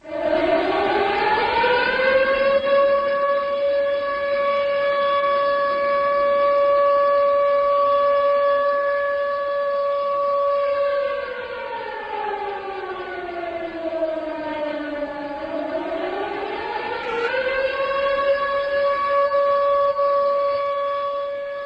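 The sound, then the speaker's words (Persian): A civil defense air raid siren wails continuously in China at 2:28, the moment of the Sichuan earthquake seven days earlier, in mourning for over 50,000 dead, rising to a steady high tone, then dipping low around the midpoint before climbing back up, loud and sustained with a rich harmonic drone. “این آژیر در ساعت 2:28 عیناً در لحظه وقوع زلزله 7 روز پیش صدا داد.”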